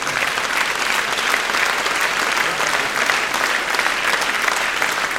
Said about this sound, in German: Stell mal ganz kurz auf, du kriegst auch nochmal einen besonderen Applaus.